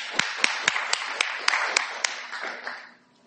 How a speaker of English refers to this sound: But to make the most of the time, we'll start, and I'll invite our three panellists up. So please do give a clap of welcome to...